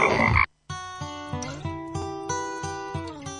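A brief rushing burst of noise gives way to a frog croaking loudly, a steady run of throaty, buzzing pulses about three per second, its pitch lifting slightly partway through.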